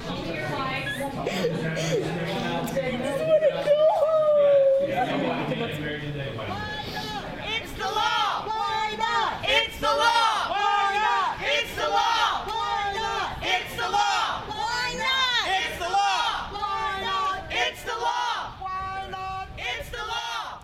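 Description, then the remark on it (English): A crowd in Arkansas erupts in loud, overlapping shouts and yells, many voices at once, with sustained cheering and raised cries rising and falling over about twenty seconds, reacting when police blocked them from a building after a marriage clerk refused to marry same-sex couples. “The reaction by the crowd was immediate.”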